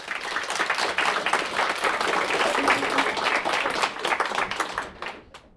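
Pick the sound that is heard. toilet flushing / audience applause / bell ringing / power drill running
audience applause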